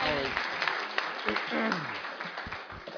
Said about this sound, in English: Can I ask everybody to stand and let's give Sean a round of applause.